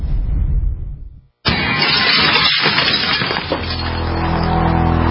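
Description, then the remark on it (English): A low rumbling thud gives way to a brief pause, then a sudden loud crash of splintering wood and shattering glass, followed by crackling debris and a steady low drone, depicting a smash-and-grab break-in at a home. “In the U.S., one in every 50 homes will have a break-in this year. Burglars call it smash and grab.”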